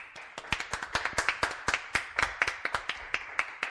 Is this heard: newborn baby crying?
no